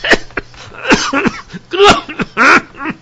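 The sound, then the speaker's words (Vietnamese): An old man coughs and sputters in a rapid series of harsh, wet hacks and gasps, loud, choking on ditch water that has rushed into his mouth and nose after being pushed into the ditch, with no other sounds around him. “Nước dưới mương tràn vào miệng, vào mũi, khiến ông ho sặc sụa.”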